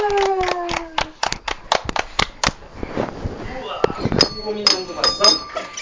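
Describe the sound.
Quick bursts of hand clapping, about a dozen sharp claps in an irregular rhythm, fading into background chatter and voices as the clapping stops.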